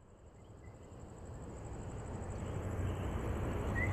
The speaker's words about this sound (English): It's evening in San Juan, and you know it's nighttime from the chirping of the frogs, which you can hear everywhere, but you just can't see.